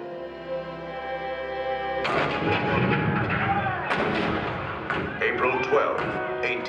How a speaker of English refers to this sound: April 12, 1861, Fort Sumter. The cannons spoke for war.